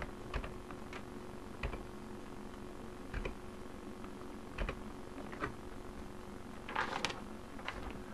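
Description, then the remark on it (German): Computer keyboard keys being pressed: the Control, Alt, Shift and left and right cursor keys, to move the active window to another side of the desktop cube. A handful of sharp clicks spaced irregularly with a quick cluster near the end, over a low steady hum with no talking. “Soll das aktive Fenster auf eine andere Würfelseite tätige ich die Steuerungstaste, die Alt-Taste, die Shift-Taste und die Cursor-Tasten links und rechts.”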